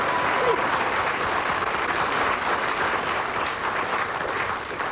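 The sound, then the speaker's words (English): Sustained audience applause fills the whole stretch, a dense, steady clatter of many hands clapping at a fairly loud, even level with no voices breaking through. “Anyway, I heard some applause, so I assumed it was for me”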